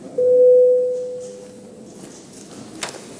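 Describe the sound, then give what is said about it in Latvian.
A steady electronic tone signals voting mode in a parliamentary vote on amendments to an education law, sounding for about a second, clear and moderately loud, then fades into a low background murmur with a brief click near the end. “Lūdzu balsošanas režīmu.”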